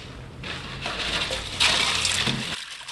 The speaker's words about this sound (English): They're dunked in boiling water for just a minute and then shocked in a cold ice bath.